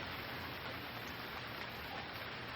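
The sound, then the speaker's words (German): Steady rain falls in a continuous, even hiss with a soft patter of drops, fairly quiet and unbroken, with no voices. “Hör den Klang des Regens.”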